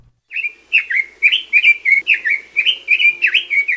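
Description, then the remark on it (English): A red-billed leiothrix, a small non-native bird in Hawaii, sings a rapid, continuous run of bright, warbling whistled phrases, loud, repeating in a bouncy rhythm with no talking. “Red-billed Leothrix are one of the prettiest non-native birds that live in Hawaii.”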